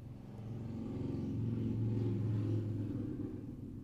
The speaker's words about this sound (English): Get out of here! Stop driving your motorcycle so loud!